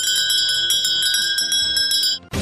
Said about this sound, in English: Actually, I should have a little bell. Do I have a bell? I bet I could find a bell sound.